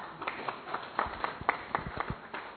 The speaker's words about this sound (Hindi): और मैं आपको सरप्राइजिंग बात बताऊं, मुझे सर दर्द नहीं हुआ, ताली तो बजाओ।